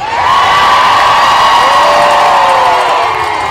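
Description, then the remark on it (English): A big raucous crowd at a rally over pension reform in Frankfort, Kentucky, cheers loudly and continuously, a dense roar of many shouting voices with high whoops rising and falling, holding steady for the whole few seconds. “The crowd at this latest rally exceeded that of the previous rally, April 2nd, and the raucous crowd promised to remember this fight over pension reform in this year's and next year's elections.”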